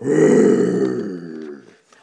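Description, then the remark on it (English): A single loud, gravelly roar voiced by a person imitating a dragon, held for about a second and a half before trailing off into a fading growl. “And the witch heard a roar that was scary and loud.”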